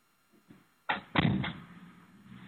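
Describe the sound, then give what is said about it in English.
A door is swung shut, with a couple of soft shuffles first, then a sharp latch click and a heavier thud, followed by a brief low rumble fading out. “One second, I'm just going to close the door.”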